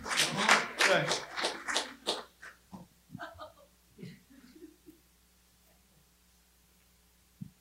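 A quick run of about seven soft, evenly spaced claps, a half-hearted golf clap, that trail off after a couple of seconds, followed by some brief murmured vocal sounds and then quiet.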